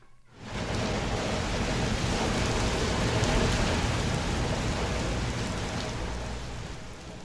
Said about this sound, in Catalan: Què us ha semblat aquest so? Us ha agradat? Doncs... Home, de primer jo qualsevol. Home, és de pluja. Ah, a mi m'agrada, eh?